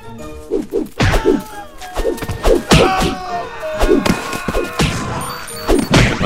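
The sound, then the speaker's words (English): A rapid series of heavy, punchy impact hits from a video game, as a character keeps punching, land one after another in a loose rhythm, loud, with a busy electronic backdrop of tones and chimes between the blows. “As we keep on punching.”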